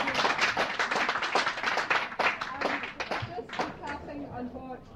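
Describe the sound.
Audience applause: many hands clapping in a dense, steady patter that stays loud before thinning slightly toward the end, with faint voices murmuring underneath.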